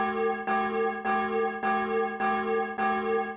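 A church bell rings in a steady, even rhythm, about six strikes in quick succession, each tone ringing on and overlapping the next. It is loud, with no voices.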